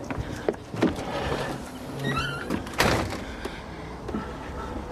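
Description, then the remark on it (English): A house's front door swings shut with a solid thud midway through, preceded by a few lighter knocks and rattles from the handle and frame, with no one speaking. “Can I close the door for my cat?”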